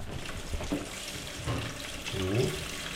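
Liquid is poured gently and carefully into a tray placed close to photographic negatives, a soft continuous splashing trickle, with a brief murmured voice near the end.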